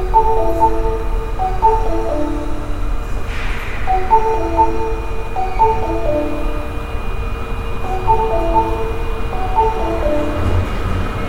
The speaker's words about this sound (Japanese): ただいま2番線に到着の列車は日本橋、難波、阿波佐方面、野田阪神行きでございます。